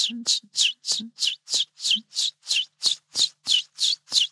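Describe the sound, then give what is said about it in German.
A common chiffchaff sings a steady, even series of about thirteen bright, high chirping notes, each short and clipped, alternating slightly in pitch with a metronomic rhythm. “Das klingt, als wenn man so Münzen auf verschiedene Haufen sortiert.”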